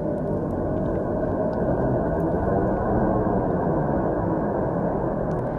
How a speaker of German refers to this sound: Das, was ihr da gehört, das sind Geräusche vom Saturn. Geräusch ist vielleicht ein bisschen viel gesagt, weil Schallwellen gibt's im All eigentlich keine.